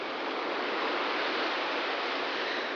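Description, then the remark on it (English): A steady, unbroken wash of ocean surf played from a relaxation cassette tape of sea sounds, a hissing roar that stays level throughout with no distinct wave crashes, slightly muffled in the highs, and no voices. “Welcome to relaxation tape number 3. Sounds of the Sea.”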